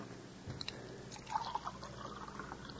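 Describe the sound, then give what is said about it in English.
A little water is poured into a glass to take pills with, a short liquid splash and trickle with a few bright clinks and drips, fairly quiet against a steady background hum, with no talking. “And a little water, honey.”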